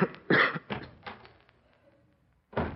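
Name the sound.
man coughing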